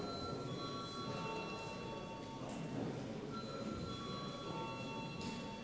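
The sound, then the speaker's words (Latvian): A loud electric parliament voting bell rings continuously with a harsh, metallic clatter, sustained without pause for several seconds and no talking over it, rung before a vote on the urgency of bills. “Lūdzu zvanu.”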